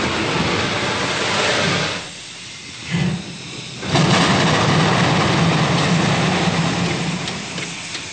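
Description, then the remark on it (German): A steam locomotive runs with loud, broad hissing over a low mechanical rumble. The sound briefly drops away twice, then returns as a steady, droning roar. “In diesem Zylinder werden durch den Druck des Dampfes Stangen hin und her geschoben.”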